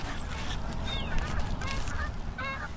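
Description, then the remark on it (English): Canada geese, around 5,000 of them at an abandoned gravel pit not far from a trail along Boulder Creek, honk repeatedly, several overlapping calls rising and falling over a steady low outdoor rumble. “The wild winter grasses grew tall and thick, and from an abandoned gravel pit not far from the trail came the sound of Canada geese, around 5,000, according to Steve Jones.”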